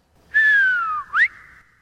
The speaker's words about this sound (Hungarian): De ha azért füttyentenék egyet juhászok módjára, mindjárt előjönne szívem fájdalmára.